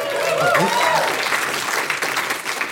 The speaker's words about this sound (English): She's been around a while, so I assume that's what the applause was.